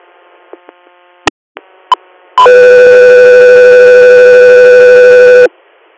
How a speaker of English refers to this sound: Echo 3, you're standby for tone.